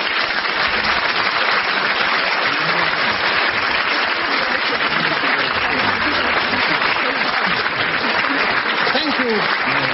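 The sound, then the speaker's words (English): Sustained audience applause at the end of an edition of the panel game Just a Minute fills the whole stretch, a dense, steady clatter of many hands clapping at an even loudness with faint voices mixed underneath. “On behalf of our winner, very much for that applause.”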